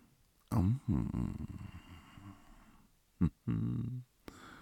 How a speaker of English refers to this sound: Oh, I love that little gasp, honey.